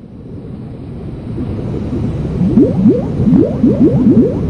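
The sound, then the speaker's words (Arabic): Very hot water laden with minerals and microbes gushing from a deep-sea hydrothermal vent about 7,000 feet down in the northeast Pacific: a steady low underwater rumble, joined midway by a quick series of rising, bubbling gurgles that grow louder and busier toward the end. “تفيض مياه ساخنة جدا محملة بمزيج غني من المعادن والجراثيم.”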